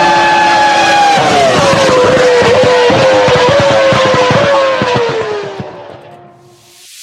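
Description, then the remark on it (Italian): The V10 engine of an F2003 Formula 1 car screams loudly at high pitch, its tone sliding gradually lower through gear changes with sharp crackles and pops, then quickly fading away at the end. “Con questo scoppiettante motore di un V10 della F2003 siamo tornati a parlare di Formula 1.”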